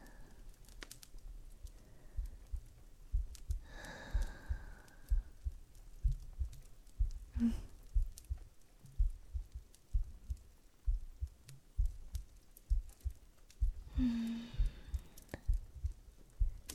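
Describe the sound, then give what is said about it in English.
A human heartbeat heard up close: a steady, muffled lub-dub thumping that repeats evenly throughout, with a couple of brief higher-pitched warbling sounds drifting in faintly over the beats. “Closer. Yes, until you can hear. No. Feel my heart beating.”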